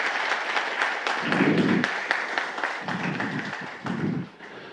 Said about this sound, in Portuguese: Então, esse trabalho, esse reconhecimento a todos, a família CETRAN, que é uma equipe, e gostaria de pedir uma salva de palmas para toda a equipe da CETRAN.